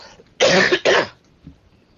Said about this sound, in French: Maintenant quand je tousse, là, et surtout ces 2 derniers jours, je tousse de ma poitrine. Là, je tousse de ma poitrine.